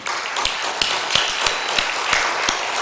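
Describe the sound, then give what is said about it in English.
People in a church clap to honour a sermon, a dense wash of hand claps with sharper beats landing roughly three times a second, fairly loud and continuous, with no voices. “I think we should give them another clap.”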